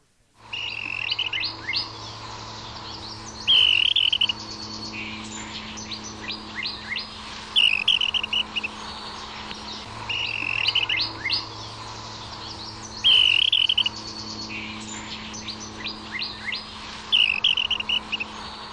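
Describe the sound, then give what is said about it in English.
A willow flycatcher along the lower San Pedro River gives a high-pitched warbling trill interaction call, about four bright bursts spaced a few seconds apart, set against a busy backdrop of other bird chirps and a low, steady hum. “Perhaps the most common type of interaction call is a high-pitched warbling trill heard here from a bird along the lower San Pedro River.”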